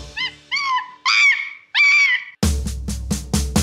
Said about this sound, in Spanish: Si tú sabes cómo hace el mono, vamos a escucharlo tú y yo.